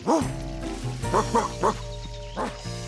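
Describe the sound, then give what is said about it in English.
A big dog, Clifford the big red dog, barks about five times in an uneven series, loud, over a steady low background hum. “He's always such a good dog.”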